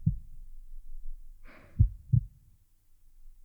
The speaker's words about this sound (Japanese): そういえば、赤ちゃんは生まれる前、お腹でママの心臓の音を聞いてるって言うよね。だから心臓の音を聞いてると、なんか安心するのかな。